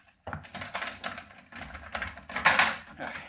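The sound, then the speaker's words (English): A door lock being unlocked: a few seconds of busy metallic clicking and rattling as the mechanism is worked, with no voices. “So unless you want to spend the rest of your days behind bars, you'd better unlock that door and let me out of here.”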